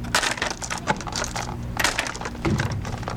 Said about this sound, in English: At the ATCC Cell Library in Rockville, Maryland, a worker is counting out tiny glass vials, packaging them up for sale. Little pieces of the living world, and ever more frequently, little pieces of ourselves.